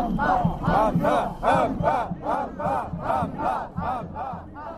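crowd, street protest crowd chanting

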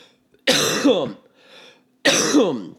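human body sound, coughing and throat clearing

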